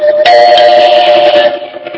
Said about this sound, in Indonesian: Bel terus saja berbunyi.